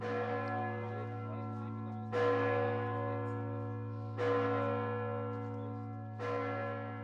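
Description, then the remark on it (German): A large church bell of the Church of Saint Nicholas (San Nicola) in the old town of Bari tolls slowly, about every two seconds, each deep resonant strike swelling over a long humming decay. It sounds full, with no voices. “Und wenn die Glocken läuten, dann trägt der Wind den Klang bis zum nahegelegenen Meer und manchmal auch aufs offene Meer hinaus.”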